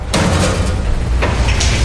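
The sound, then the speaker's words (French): In a garage, a father slams a client's car hood shut with a sharp, heavy thud after finishing work on it, followed by a couple of lighter metallic clunks over a steady low rumble. “Le père referme le capot.”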